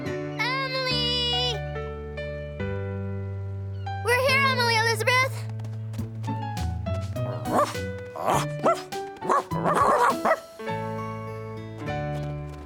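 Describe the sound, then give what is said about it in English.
A dog barks and yips in two short, bright bursts near the start and again a few seconds later, over a steady music bed, followed by busier clattering sounds. “We're gonna have a lot of leftovers from our picnic today, Clifford. Woof, woof!”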